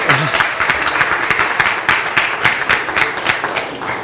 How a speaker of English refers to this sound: I started clapping because it's the only appropriate thing I could do.